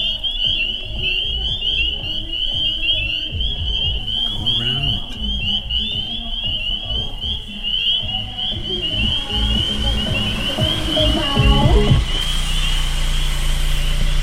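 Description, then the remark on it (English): A dense chorus of spring peeper frogs calls from wetlands, recorded from the window of a pulled-over car with everything turned off, with continuous, shrill high peeping over a low rumble of passing vehicle noise that grows heavier near the end. “On our drive back, we go by some wetlands, and we hear peepers calling.”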